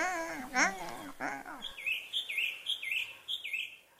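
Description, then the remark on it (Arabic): A bird chirps in a quick series of about half a dozen bright, high tweets at a steady rhythm, clear, following a brief warbling vocal sound at the start; a group of doves searching for food. “نعم أحبتي، بينما كان الصياد يختبئ خلف الأشجار، وإذا بمجموعة من الحمامات كنا يبحثن عن الطعام.”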